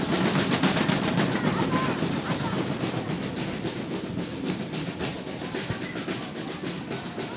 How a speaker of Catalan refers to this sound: És un moment molt bonic, és un moment molt bonic. Escoltin. Va llançant guspires i petards a través d'aquest arc i aquesta fletxa cap al cel de Tiana.